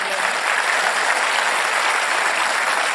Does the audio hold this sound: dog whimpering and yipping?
no